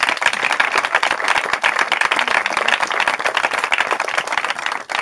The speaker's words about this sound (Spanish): Un aplauso para los dos, por favor, un aplauso muy grande.